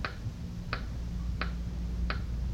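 A clock ticks steadily, four crisp clicks spaced evenly about two-thirds of a second apart, standing out clearly over a low, constant background hum.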